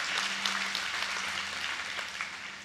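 An audience claps for three salvations, a steady, dense, sustained patter of many hands at an even loudness, with a faint low hum beneath and no voices.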